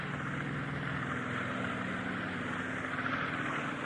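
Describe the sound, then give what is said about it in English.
An army helicopter lifts off, its engine and rotors making a loud, steady roar with a low droning hum that holds without a break. No voices are heard. “One Army helicopter is taken off.”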